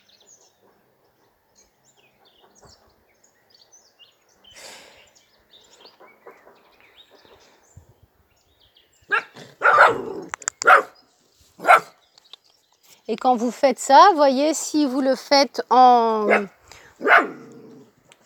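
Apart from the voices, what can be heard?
small dog barking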